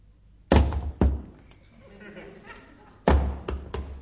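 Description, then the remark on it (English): Heavy boots being taken off upstairs thud onto the floor one after another: two loud drops, a pause with a faint murmur, then another loud drop followed by two lighter bumps. “Do you mind taking those noisy boots off?”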